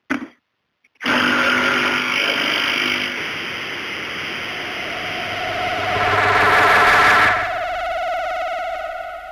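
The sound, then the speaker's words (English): A coffee maker runs steadily after a short click and a brief pause, giving off a dense mechanical hiss and hum that swells louder for a moment before settling back. No one speaks. “Now I will use coffee maker and make some coffee.”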